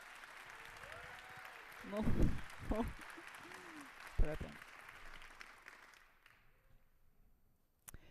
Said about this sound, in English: Please give them a welcome applause. Let's the show start.